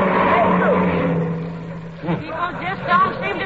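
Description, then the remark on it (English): A car engine hums steadily as a vehicle drives by without stopping in South Wistful Vista, passing Fibber McGee and Molly standing beside their car out of gas, and gradually fades away, then voices start talking over the quiet that follows. “Why don't somebody stop?”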